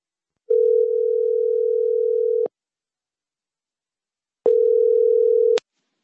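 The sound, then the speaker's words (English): A telephone tone sounds as a call goes out to a guest speaker in Maryland, USA, from an internet radio show: a steady, mid-pitched electronic hum lasts about two seconds, falls silent, then returns for a shorter burst. No voices are heard. “Let's call him now and see if he's available.”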